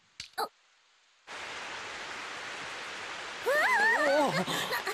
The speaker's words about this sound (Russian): Эй! Дождь пошел.